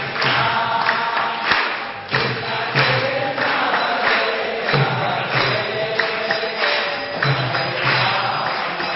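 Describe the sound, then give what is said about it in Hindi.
A group claps steadily in rhythm along with a loud, continuous crowd chant of the Hare Krishna mantra during a kirtan, the sharp hand claps repeating throughout beneath the massed voices. “सब ताली बजाओ, गाओ तुम।”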